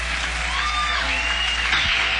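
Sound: audience applause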